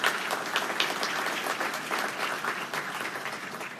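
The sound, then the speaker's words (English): An audience claps steadily for a choir that sang that morning, a dense wash of many hands applauding at fairly even loudness with no talking over it. “And could I ask you to please give a round of applause for that choir that was singing this morning?”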